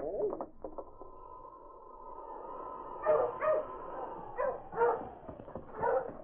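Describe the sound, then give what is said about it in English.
A dog barks five times in loose, uneven bursts, fairly loud, over a steady droning tone that runs through the whole stretch. “Ho! Ho, you dog!”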